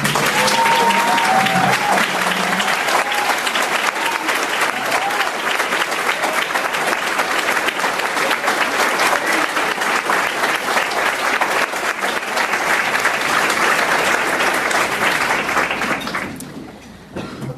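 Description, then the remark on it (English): A crowd applauds steadily for over fifteen seconds, a dense, loud wash of many hands clapping that tapers off at the end, recognizing 24 Chicago district and charter school principals who stood up. A few faint voices and tonal sounds stand out at the start. “I would be remiss if I failed to tell you that you have an opportunity beyond clapping for the people that just stood to recognize the principals in Chicago's district and charter public schools.”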